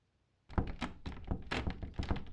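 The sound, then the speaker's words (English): Someone tries a locked door, making a rapid series of solid thunks and rattles for about two seconds after a brief silence, with no voices. “Oh wait, the door's locked.”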